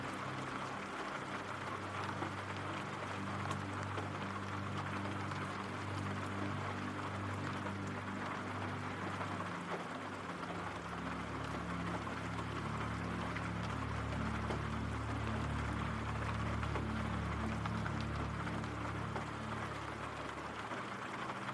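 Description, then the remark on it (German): Steady, continuous rain hisses evenly throughout, with a low droning hum underneath that shifts slightly partway through. No voices are heard. “Dein Atem geht ruhig und gleichmäßig, während du den beruhigenden Regengeräuschen lauschst.”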